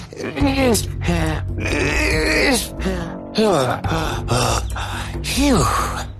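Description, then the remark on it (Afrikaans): A loud voice grunts, groans and pants in a string of strained, effortful bursts with short gasping breaths between them, acting out a man slowly climbing a tree with a heavy calabash tied around his neck. “Hy kreun en hyg terwyl hy hoor en hoor teen die boom uitsukkel.”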